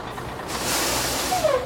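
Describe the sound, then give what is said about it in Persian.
A truck's air brakes release a loud, sustained hiss after a brief low rumble, with a faint high squeal near the end as the truck, carrying cargo barrels with people seated in the back, pulls into a parking lot and settles to a stop. “کامیون وارد یک پارکینگ میشه.”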